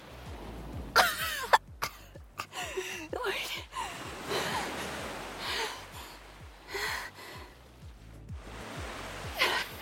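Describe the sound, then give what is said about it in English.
A woman gasps and coughs for air in an urgent series of harsh, ragged bursts and sharp breaths, irregularly spaced, with no speech, as her head is pulled above the water's surface. “Pulling her head above the surface, you frantically observe as she gasps for air.”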